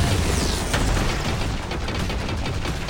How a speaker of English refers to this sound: There we go. He exploded. Real good. Real nice. Real good explosion.